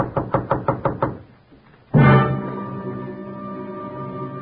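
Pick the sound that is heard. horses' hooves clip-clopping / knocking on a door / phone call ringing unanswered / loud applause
knocking on a door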